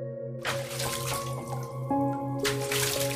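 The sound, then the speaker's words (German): Bath water sloshes and splashes in several uneven bursts as a piglet named Sunny is set into a full tub of warm water and the person climbs in, over a soft, steady background of sustained musical tones. “Dann setzt du Sunny vorsichtig in das Wasser und kletterst selbst hinein.”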